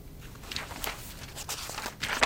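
Pages flipped back through a stack of files: a quiet series of soft, papery rustles and brief swishes, irregularly spaced, with no one speaking.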